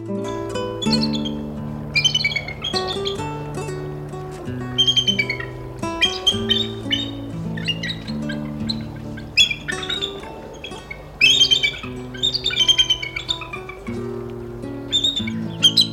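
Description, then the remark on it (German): Bald eagle calls, high, squeaky chirping notes in repeated bursts, heard over a steady bed of low sustained musical tones; no one speaks. “Das war der Weißkopfseeadler.”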